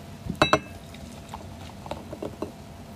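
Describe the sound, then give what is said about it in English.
Cola soda is poured into glasses, opening with two sharp clinks before soft, scattered fizzing and crackling bubbles carry on quietly. No one speaks. “Pour some, James. Let's try it.”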